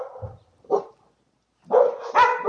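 dogs barking

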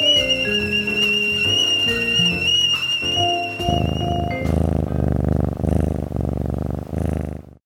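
tea kettle whistling

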